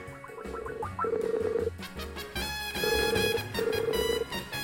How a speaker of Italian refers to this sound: Il telefono squilla ed ecco il Demiurgo che compare.